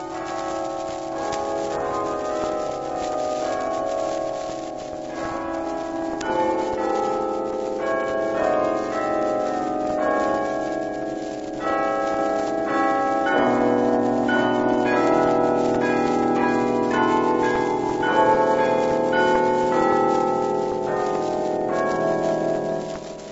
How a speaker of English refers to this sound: On this, the birthday of the Prince of Peace, the bells ring out glad tidings to a once again peaceful world.